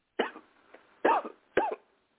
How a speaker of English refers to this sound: Cough again.